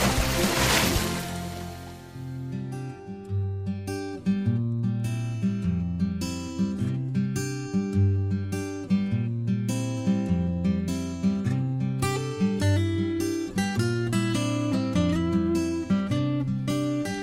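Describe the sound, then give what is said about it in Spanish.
The instrumental theme tune of a radio health section with doctor Jesús Sánchez Martos opens with a bright, noisy swell, then settles into a steady, repeating groove of bass notes, chords and crisp percussive hits. It plays loud, with no voices. “Pues es escuchar esta sintonía y seguramente a nuestros oyentes más fieles pues ya sabrán que vamos a hablar de salud, nos curamos en salud, esta sección de Jesús Sánchez Martos, de nuestro doctor de cabecera, al que ya voy a saludar.”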